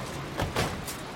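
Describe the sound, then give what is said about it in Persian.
Car doors thump shut in quick succession as two passengers get out of a car that has just stopped: two solid clunks about a fifth of a second apart, followed by a fainter knock, with no one speaking. “رضا و یان پیاده میشن.”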